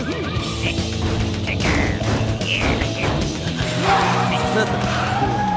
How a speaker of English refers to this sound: The car takes off forward, sideswiping other vehicles and garbage bins.